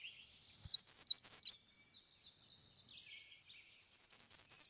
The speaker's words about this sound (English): All right, we've got another call, a bird call here. Warblers fly over Wisconsin. Here's the, I'm not familiar with this one, the American Redstart.